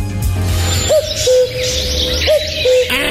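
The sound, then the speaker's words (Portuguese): A female cuckoo calls twice, each a clear two-note hoot repeated about a second and a half apart, heard alone against a low steady background hum. “Isso é um cuco.”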